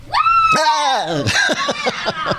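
A recorded scream played as a mailbag segment sound effect: a loud, shrill scream rises and then slides downward, followed by a rapid burst of short, yelping shrieks. It is piercing, with no talking underneath.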